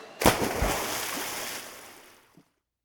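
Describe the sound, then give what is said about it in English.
A single loud splash, as if someone plunged into water, bursts and then fizzles into a long hissing wash of churning water that fades out after about two seconds. “Let's jump into the water together.”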